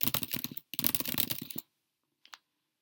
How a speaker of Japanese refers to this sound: キーボードをカチャカチャしてみます。